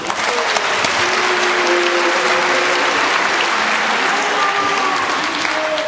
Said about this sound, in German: Und jetzt ist die Jury auch mittlerweile soweit. Ein Applaus für die Jury.